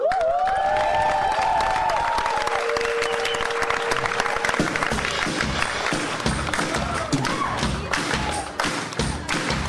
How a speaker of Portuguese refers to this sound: a cantora foi recebida com calorosos aplausos que se repetiram durante todo o concerto.